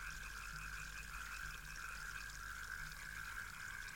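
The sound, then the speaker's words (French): A dense chorus of frogs and toads croaking steadily and continuously in the reeds of a lapping river, with a buzzing, pulsing texture and faint low rumbling underneath. No one speaks. “Madame Grenouille et Monsieur Crapaud font trempette dans les roseaux.”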